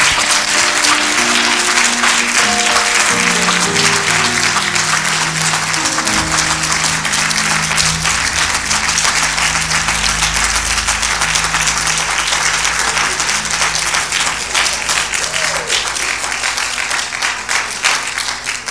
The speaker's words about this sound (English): Well, let's give God a clap of praise for this word today.